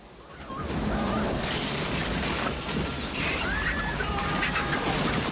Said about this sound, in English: Lightning strikes a tree which topples over in a shower of sparks.